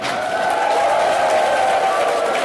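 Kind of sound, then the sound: crowd, audience applause and cheering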